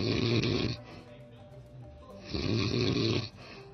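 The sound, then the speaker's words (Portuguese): Two long, heavy snores rumble loudly, each a harsh rasping breath with a quieter pause between them, no talking over it. “Mas diz o coelho, parecia que tinha uma Harley Davidson ligada no quarto lá de madrugada, que o trem tava quebrando, tá difícil.”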